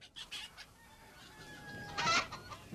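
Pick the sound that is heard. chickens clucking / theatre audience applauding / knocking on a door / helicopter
chickens clucking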